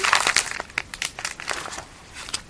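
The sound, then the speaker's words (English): Crinkling of a bag of shrimp fries: dense, irregular bursts of crisp, papery rustles and crackles, busiest at the start and thinning toward the end, with no voices. “Shrimp fries. An American... American what? American flag. Yes. What was it? A bag of”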